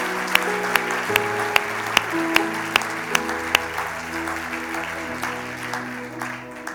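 The audience at a bilingual French-English church service applauds a preacher's message steadily for several seconds, a dense wash of clapping with sharp, regularly spaced accents, while sustained low keyboard chords play underneath.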